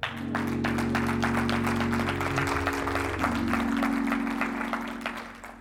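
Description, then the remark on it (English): An audience breaks into sustained applause, a dense wash of many hands clapping at steady loudness, with a low sustained hum or organ tone underneath that gradually tapers at the end. “So with a round of applause, how many of us want to start a love train today?”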